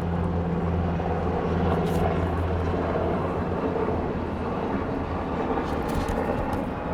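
A steady, droning engine roar from an airplane passing overhead, loud and continuous with low humming tones, filling the whole stretch without any talking.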